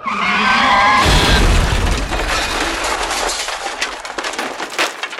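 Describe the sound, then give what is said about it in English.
A sharp tire screech gives way to a loud, booming crash, followed by a few seconds of rattling, clattering debris settling. No voices are heard. “And then she crashes.”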